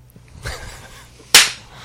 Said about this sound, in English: Butt slap.